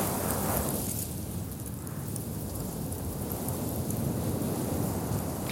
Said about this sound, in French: On l'entend pétiller avec vous, ce sable.